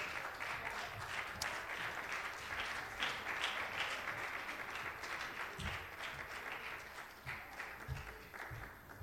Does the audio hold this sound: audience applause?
yes